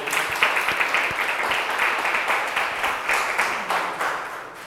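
A crowd applauds steadily, many hands clapping in a dense, sustained patter at an even loudness, with slight swells and no voices on top.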